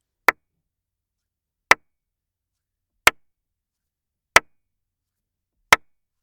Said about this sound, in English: Here's five claps inside my booth.